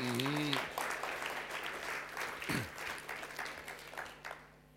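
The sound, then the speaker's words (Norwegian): A crowd applauds for Jesus with dense, steady clapping that fades slowly over several seconds, while a voice briefly calls out at the start and a steady low hum runs underneath. “En applaus for Jesus i dag.”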